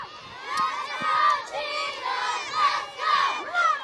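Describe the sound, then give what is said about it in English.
A crowd of students shouting and yelling together on a school playground during field day, high excited voices overlapping continuously with no pauses. “On the playground, Principal Charlene Navajo watches the students enjoy their field day.”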